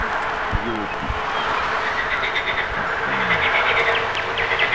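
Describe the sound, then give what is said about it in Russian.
Wind sweeps steadily through the Chara valley (the Kudak wind), a constant broad roar and hiss that barely rises or falls, with a couple of brief low voiced sounds surfacing early and midway. “Слышите? Это ветер Чарской долины.”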